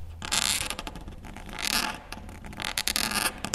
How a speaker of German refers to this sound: Man muss einen gewissen Druck geben und ziemlich weit vorne die Federn haben, damit es ja, die Tinte schön läuft.